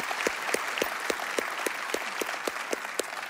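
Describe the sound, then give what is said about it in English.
An audience at Fairhaven's Springboro campus claps steadily for families joining from Ecuador, a dense wash of many hands with a few sharp, evenly spaced louder claps cutting through, holding a constant level throughout with no one speaking. “So Fairhaven and all of our campuses, would you give a big round of applause to those that are joining us in Springboro from Ecuador?”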